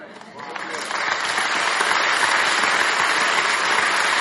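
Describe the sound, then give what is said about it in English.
A large church audience breaks into applause, the clapping swelling quickly and then holding as a dense, steady roar of many hands, with no voices standing out. “Don't clap for that. Clap for Cody.”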